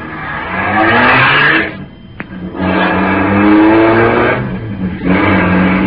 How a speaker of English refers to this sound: At the moment that she's sending the big car roaring down the driveway